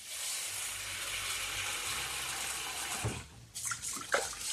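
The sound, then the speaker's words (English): A tap runs steadily into a bowl of about 120 grams of raw white rice being washed, a broad rushing hiss of water, then eases off near the end with a few splashes and sloshing sounds. “And we're going to wash it under water until the water runs clear.”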